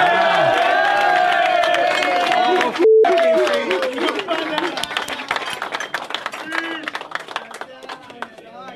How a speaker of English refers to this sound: Man, that sounds so Russian with, like, the glasses cheering in the background and stuff. That sounds so cool.